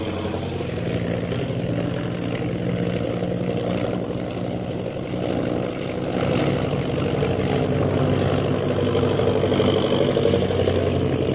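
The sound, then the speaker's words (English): A propeller airplane engine drones steadily in flight, a loud, continuous hum with a low throbbing tone that holds level throughout, with no voices. “I'm going to try to sound our plane out of the reach of those purple triangle men.”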